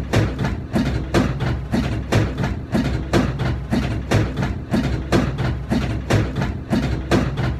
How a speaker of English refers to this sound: Basically, what it is, it's a washing machine. It's out in, like, it's outdoors. Okay. It's in some third world country.